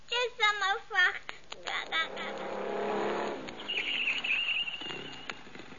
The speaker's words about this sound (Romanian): Cine vine cu motocicleta aia?